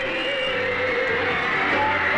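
A dense, unbroken wall of high-pitched screaming from a huge crowd of fans, loud and steady for the whole stretch, with faint music buried underneath.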